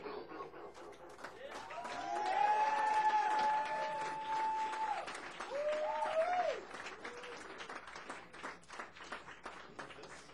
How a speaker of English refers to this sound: All right, give it up and clap